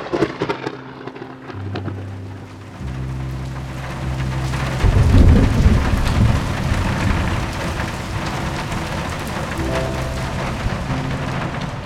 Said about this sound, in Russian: Дверь в прихожую захлопнулась так громко, что, кажется, небеса на Танбридж-Уэллс содрогнулись, а повисшее в пространстве возмущение превратилось в раскаты грома.